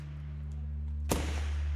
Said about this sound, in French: « ça doit être des pétards », j'ai dit « je crois pas, non ». Moi, je fais ce constat, que le souvenir m'est revenu par les oreilles. Ouais. Et je pense que voir les choses a dû être absolument horrible. Mais le son des calaches m'a beaucoup obsédé.